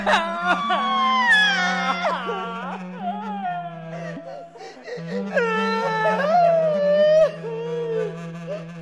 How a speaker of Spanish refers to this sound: Llegado el llanto, se tapará con decoro el rostro usando ambas manos con la palma hacia adentro. Los niños llorarán con la manga del saco contra la cara y de preferencia en un rincón del cuarto. Duración media del llanto, 3 minutos.